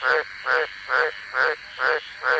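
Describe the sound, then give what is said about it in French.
A male tree frog gives a hoarse, rasping mating call in the breeding season, calling from high in the trees at night; six evenly spaced croaks repeating about twice per second, fairly loud with no voices. “À la saison des amours, les messieurs lancent du haut des arbres leurs appels rauques dans la nuit.”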